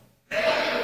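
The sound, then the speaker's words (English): A single sneeze bursts out abruptly after a moment of quiet, a loud, breathy, hissing blast that holds for a fraction of a second with no one talking. “Bless you.”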